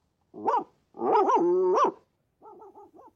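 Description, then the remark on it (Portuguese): A dog, Towser, calls with a message: a short bark, then a long wavering howl, then a quick run of four short yips, loud and clear with no one talking. “Um longo uivo, dois curtos, um yap e um uf.”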